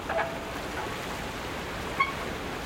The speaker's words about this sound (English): Waves lap against a creaking wharf while the SeaBus ferry crosses Vancouver Harbor. Passengers shuttle between the city of North Vancouver and downtown.